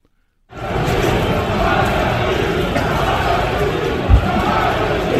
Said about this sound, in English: Listen to the crowd.